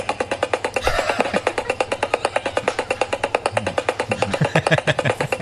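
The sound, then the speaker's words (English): A helicopter sound effect superimposed at the end of a clip over a woman with a stutter speaking: steady, rapid rotor chopping pulses several times a second throughout, loud and even, with her voice underneath. “Okay, she's got a terrible stutter, and then what they do is they superimpose a helicopter on her at the end.”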